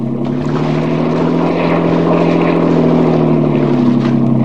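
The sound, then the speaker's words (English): A motorboat engine roars steadily at high speed as the boat races across water, a loud, continuous droning hum with a slight rough flutter throughout, and no voices. “Get more speed out of this.”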